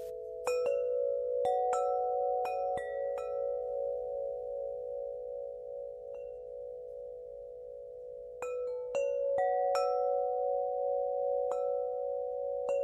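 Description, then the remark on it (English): Wind River wind chimes ring alone, with bright metallic strikes in two loose clusters separated by a quieter pause. Warm, sustained tones hum steadily beneath the struck notes, and no one speaks. “Today, Wind River is choosing to use their ad time to gift you a mindful moment with their chimes.”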